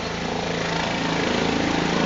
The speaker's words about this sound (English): And here comes the baseball. Softball. Air Evac is bringing the softball in. That's why you're hearing that helicopter dropping this down.